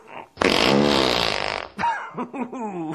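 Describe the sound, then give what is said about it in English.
A long, loud, wet fart in a Clear Channel spot demonstrating HD radio lasts over a second, sputtering with a buzzy low rumble, then cuts off and is followed by brief voices that sound like laughter or reactions. “So basically on normal radio, farts do not sound as juicy as they do on HD radio.”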